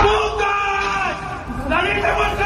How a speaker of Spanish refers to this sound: son los gritos del Elías Aguja del Colegio Mayor de Madrid, que se produjeron hace unos meses. La Fiscalía ha archivado hoy el caso de estos cánticos machistas.